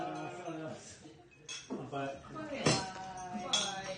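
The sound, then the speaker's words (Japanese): Glasses clink together in a toast, three bright taps spaced about a second apart, with people's voices murmuring underneath, during a welcome toast of "kanpai" at the snack bar Snack Akira. “はい、スナックアキラへようこそ。乾杯。乾杯。乾杯。”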